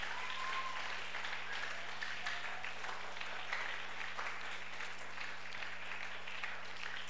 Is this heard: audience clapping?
yes